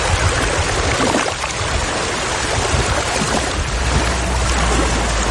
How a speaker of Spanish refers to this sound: El agua que sale de ese mar menor, cuando se junta con el Báltico, el mar mayor, pues produce este pequeño oleaje, que fue el que grabé, porque me pareció simpático de traeros un sonido de un sitio tan lejano.